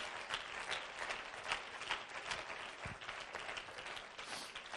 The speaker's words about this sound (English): Let's give him a hand clap of praise right now. Hallelujah.